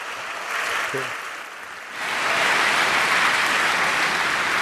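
An audience applauds to welcome three speakers about to demonstrate breaking apart a hardware wallet, with dense, steady clapping that dips briefly, then swells louder and holds at full strength until the end.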